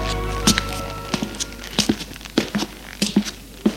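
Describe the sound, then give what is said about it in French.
A series of dull wooden knocks on an apartment door, about seven thuds spread unevenly over a few seconds, with no voices; a breathless woman knocks at a top-floor flat in a small two-storey building in Montmartre. “Apolline, essoufflée, frappe à la porte.”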